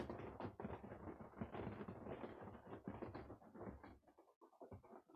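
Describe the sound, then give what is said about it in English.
Rain patters steadily on the roof of a wagon, a dense, irregular drumming of drops that continues throughout and thins briefly near the end. No voices are heard. “Maybe you hear the pitter-patter of the rain on the wagon that I'm staying in.”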